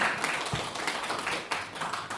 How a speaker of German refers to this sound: Der Applaus kommt genau im richtigen Moment, weil ich jetzt eigentlich vor allem mal mich bedanken wollte bei den, ich will nicht Diskutanten sagen, weil es keine wilde Diskussion ist, was wir hier abhalten, bei den Fachleuten hier am Podium.